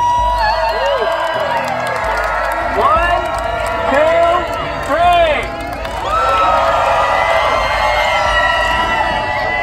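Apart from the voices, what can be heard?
crowd cheering loudly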